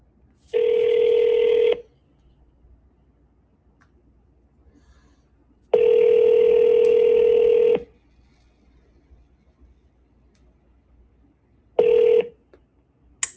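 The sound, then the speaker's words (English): Telephone ringback tones from a simulated demo call being placed to a device protection business: two long electronic rings about four seconds apart, then a short third ring that cuts off, with quiet hiss between and no voices. “So let me actually do a simulated call based on sort of what I know about your business.”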